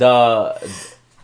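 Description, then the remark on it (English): A single sneeze: a short voiced intake swelling into a breathy, hissing burst that trails off quickly, with no talking around it. “Bless you. Sorry.”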